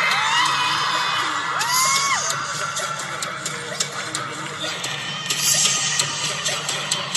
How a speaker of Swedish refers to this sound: Vi står vid varsin ingång. I Globen. Och vi hör hur publiken är helt insane.